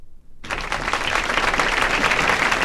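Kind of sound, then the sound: crowd, audience applause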